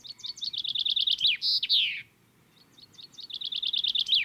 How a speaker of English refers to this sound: Yeah, chaffinch is just a standard little garden bird in Britain. Bird watchers lump all these sort of birds together that they call LBJs, little brown jobs, just little brown things.